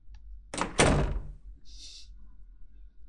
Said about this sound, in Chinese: 哼，不理我，那我直接开门进来了。